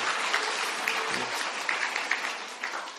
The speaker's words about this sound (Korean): 두 분 우리 또 등록하셨는데 우리 박수로 환영하겠습니다. 축하합니다.